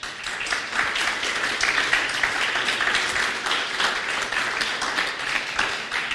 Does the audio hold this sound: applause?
yes